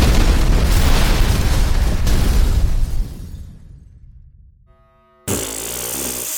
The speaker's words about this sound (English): Directly below, a shimmering green dome emerges from the thick veil of the poison smoke. Automated proximity thrusters fire just before the vessel crashes through the roof of the Gen 4.